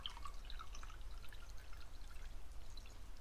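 Water is poured out of a jar to empty it, a continuous soft splashing and gurgling trickle lasting a few seconds, fairly quiet, with no one speaking.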